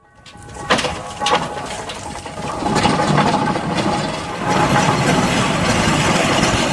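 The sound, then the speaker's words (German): A historic steam-powered locomobile, a piece of old agricultural machinery, runs steadily, a dense mechanical chugging and hissing with sharp clanks early on, growing slightly louder and fuller as it continues without any talking. “So klingt ein Lokomobil, das mit Dampf angetrieben wird.”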